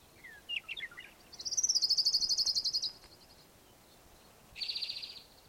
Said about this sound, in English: Warbler singing in the background here.